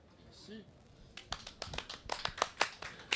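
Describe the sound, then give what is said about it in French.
A crowd at Place Saint-Sauveur applauds with quick, irregular claps that start after a brief vocal sound and continue steadily, moderately loud, with a short voice heard at the start. “Merci à la foule en délire de la place Saint-Sauveur.”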